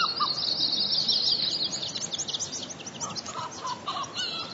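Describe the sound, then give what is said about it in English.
Several small songbirds, tree and white-crowned sparrows and longspurs, with a ground squirrel, sing over one another in a steady outdoor chorus of high, bright trills and chirps at Timber Lake, in the westernmost boreal forest within the tundra, with no voices. “These are tree and white-crowned sparrows, longspurs again, and a ground squirrel.”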